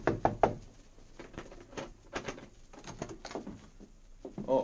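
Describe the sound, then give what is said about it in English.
A quick burst of three sharp knocks on a hotel room door at the Yukon Hotel in Whitehorse, followed by softer scattered taps and shuffling, then another cluster of knocks near the end. No one speaks. “He knocked on the door of their room.”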